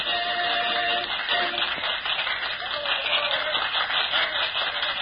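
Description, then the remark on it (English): An audience in a London theater applauds steadily as a performer with his dummy concludes his bows, a dense, continuous wash of many hands clapping with no voices, sounding thin and muffled like an old recording. “The occasion upon which this story of Michael begins is one evening in a London theater, as he concludes his bows to the applauding audience, and with his famous dummy making turns toward his dressing room.”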